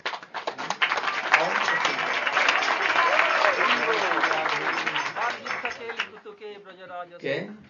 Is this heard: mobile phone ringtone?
no